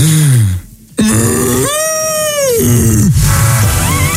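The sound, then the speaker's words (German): A person imitates a Bavarian cow as a challenge on a radio show, with loud, drawn-out vocal moos, a short low grunt first, then a long sustained moo with rich harmonics that bends down at the end, followed by rougher lowing. “Imitiere eine bayerische Kuh.”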